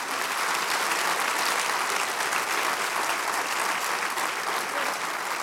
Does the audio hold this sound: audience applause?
yes